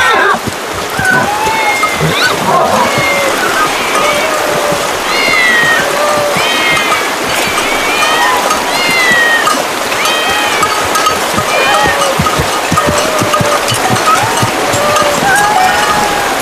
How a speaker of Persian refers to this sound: همه گربه اینجا چه میکنن؟ خدای مردم این شهر گربه است. اینجا معبد شهر میباشد.